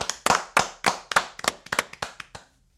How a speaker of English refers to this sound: Ladies and gentlemen, I want to clap it up for sound check. Thank you.